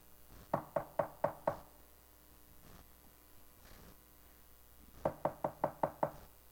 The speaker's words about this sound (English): He's knocking at the door. He's giving you a warning.